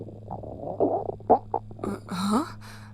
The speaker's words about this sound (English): My stomach just gurgled rather loudly. Yeah, I just heard it through the glass.